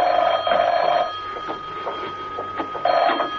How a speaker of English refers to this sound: When he entered his apartment, the phone was ringing.